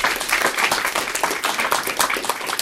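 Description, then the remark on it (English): A school audience applauds students from Edison who reached the final round of a spelling bee, steady, dense clapping throughout, a continuous crackling wash of many hands at a fairly loud, even level with no talking. “So I want to give them a round of applause.”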